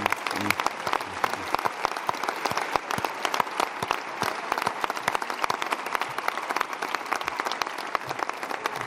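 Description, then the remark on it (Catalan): A crowd applauds Ada Colau steadily for several seconds, many hands clapping in a dense, continuous wash of sound with sharp individual claps standing out. “Aplaudim-la.”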